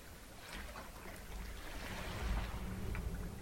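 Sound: ocean waves washing ashore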